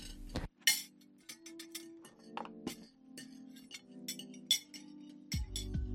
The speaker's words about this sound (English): set the table.